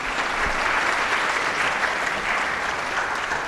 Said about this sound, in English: Ladies and gentlemen, we have a tremendous panel of experts, and let's give them a round of applause to begin with.